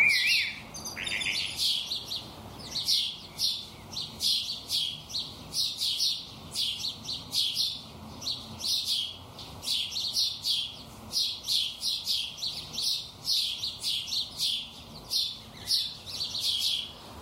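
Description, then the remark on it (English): Repetitive bird chirping, a steady run of short bright tweets at a fairly even rhythm, continuous for the whole stretch with no voices. “But even if it sounds monotonous to our ears, it's actually very expressive and full of nuances.”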